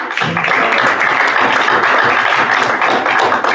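Steady, loud applause from a crowd, dense overlapping claps forming a continuous wash of sound with no voices standing out, sustained evenly throughout.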